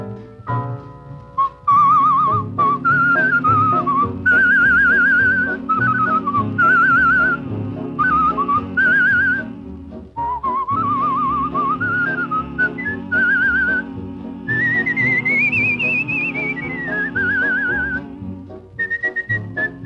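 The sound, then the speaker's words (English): A person whistles an imitation of mockingbird song: bright, warbling phrases that trill, slide and repeat at a high pitch, with short breaks, over a steady instrumental accompaniment. “Well then, listen to the mockingbird.”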